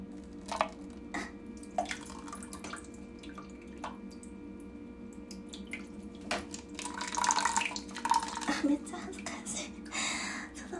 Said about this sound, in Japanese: コップを、紙コップをちょっとこう、おしっこが出るであろうあたりに持っていって、はい、この状態でしてきます。